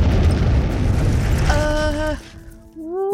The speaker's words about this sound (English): And then there was a huge noise, like an explosion, and everything went black.